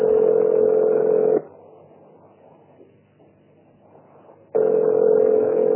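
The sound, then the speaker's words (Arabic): A loud, steady telephone dial tone hums as a telephone number is being dialed. It cuts off into a quieter stretch of faint line noise for about three seconds, then returns just as strongly. No one speaks. “قصة مكالمة هاتفية يضرب أو تضرب الرقم المطلوب وقد يكون رقم غير مطلوب لكن يضربه بشكل عام وبعضهم يمسك دليل الهاتف يبدأ يضرب الأرقام بالتسلسل حتى يقع على صوت.”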